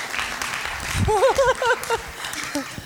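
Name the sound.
audience clapping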